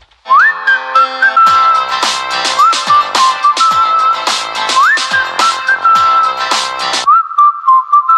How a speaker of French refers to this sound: moi, j'ai les oreilles qui sifflent